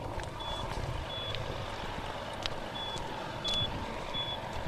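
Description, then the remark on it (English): Faint, high-pitched electronic beeps sound intermittently, about five short chirps spaced irregularly, like a smoke detector, from underneath the wreckage of a mobile home destroyed by a tornado on Gough Road in the town of Smithfield, Madison County, behind steady outdoor rumble and noise. No one speaks. “You can hear the beeping somewhere underneath the wreckage of what used to be a mobile home on Gough Road in the town of Smithfield.”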